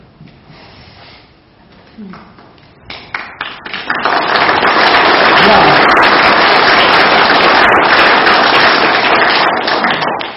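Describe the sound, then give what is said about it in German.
A brief spoken word, then scattered claps that quickly swell into sustained, loud applause from a group welcoming a new member to a church confirmation class, holding steady for several seconds before easing slightly at the end. “Ja, es ist durchaus einen Applaus wert, weil nicht alle Jugendlichen eines Jahrgangs sind heute noch bereit, in den Konfirmandenunterricht zu kommen.”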